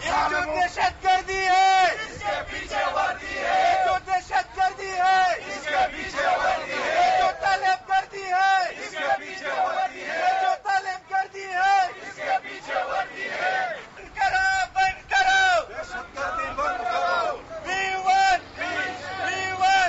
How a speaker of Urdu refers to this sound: اس موقع پر مظاہرین نے حکومت کے خلاف نعرہ بازی بھی کی.